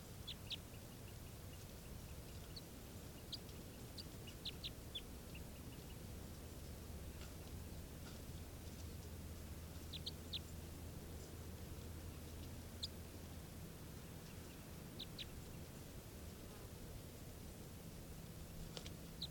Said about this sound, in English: That's the bird.